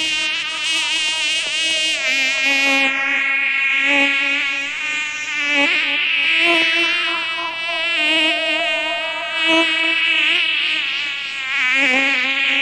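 A loud, dense buzzing of a swarm of bees drones continuously, its pitch wavering and swelling in layers throughout, with no voices.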